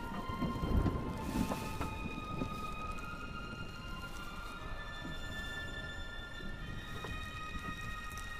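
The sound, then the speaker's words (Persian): Steady, dense rain hisses throughout, with a deep rumble of thunder swelling near the start. Faint sustained tones hang in the background, and no one speaks. “میتونه طوفان رو حس کنه.”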